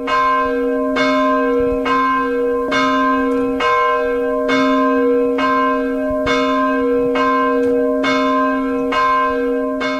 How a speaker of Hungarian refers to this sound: A katolikus templomnak a harangja szól délben? Igen, minden délkor szól. Automatával be van állítva, az minden délkor szól.